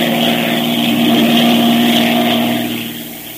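A loud, steady airplane engine drone with a throbbing propeller hum as a plane with a tampered undercarriage circles before attempting to land, holding constant throughout before easing slightly at the end. No voices are heard.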